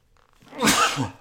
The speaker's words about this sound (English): Well, since I can't seem to stop sneezing and we've almost run out of time, we're going to call it a day.